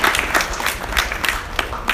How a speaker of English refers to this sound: So a round of applause for him speaking and for that.